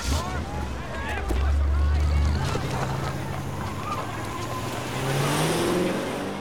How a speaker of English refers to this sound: Elliot runs alongside a car as it screeches out of the car park, following others down the road.